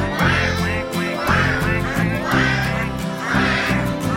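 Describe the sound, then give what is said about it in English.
Duck quacks sound in a steady rhythm, about four bright, nasal bursts evenly spaced over upbeat background music, fairly loud. “That is what ducks say.”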